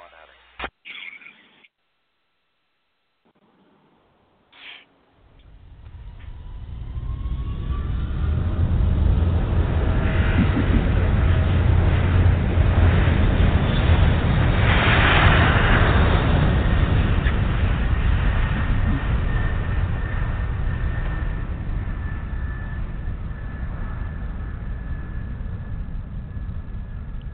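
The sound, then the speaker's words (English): Jet airliner engines of an Eastern flight spool up into a heavy, steady roar that builds and holds loud, as on a takeoff roll on runway 9, with wind from the east at 5-10 mph, after a few seconds of brief, muffled sounds and near silence. “You're cleared for takeoff, runway 9 heading south of 15-16.”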